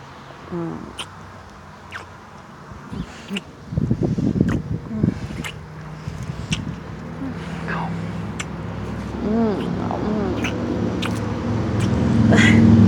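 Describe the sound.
Traffic passes, a low steady rumble that swells louder toward the end as a car seems to approach. Cat-like cries and a voice are heard over it.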